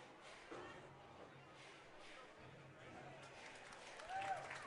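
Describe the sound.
A ballpark crowd applauds, a steady wash of clapping and cheering that swells briefly near the end, with a voice talking over it, as an older fan who collected a foul ball hands it to a young girl in attendance.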